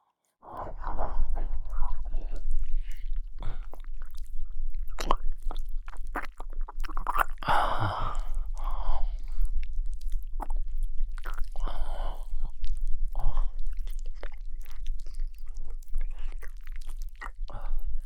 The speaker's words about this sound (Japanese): こっちの耳も舐めて、ぐっちゃぐちゃに。